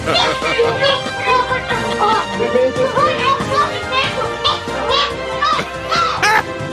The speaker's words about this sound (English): And that was one angry bird.